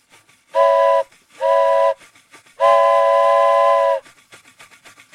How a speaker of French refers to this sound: Tu me dis quand tu veux qu'il siffle. Ah, le train sifflera trois fois.